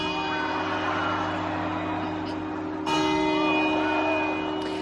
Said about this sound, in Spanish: El reloj de la Puerta del Sol luce sus mejores galas para las campanadas, un reloj con 150 años de vida y fabricado en Londres por un leonés en 1866.